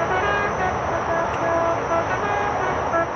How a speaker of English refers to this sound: Charlie Company's makeshift camp is within view of a major road linking the Iraqi capital and Fallujah. And as some of the men get ready for their night missions, a steady stream of trucks rolls past. It's a favorite target of insurgents.